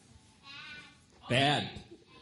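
A sheep bleats twice: first a faint, thin bleat, then a loud, wavering, quavering baa that trails off. No one speaks.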